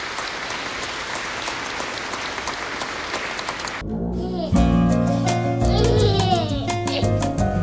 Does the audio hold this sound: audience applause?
yes